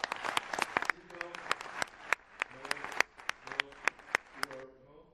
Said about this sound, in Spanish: Yo quiero pedirles un aplauso para la magistrada Otálora.